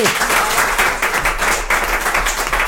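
An audience applauding steadily, a dense, loud wash of many hands clapping at once with no pauses and no voices standing out.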